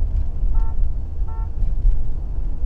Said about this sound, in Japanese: うわぁ、お客さん渋滞ですよ。 渋滞ですか。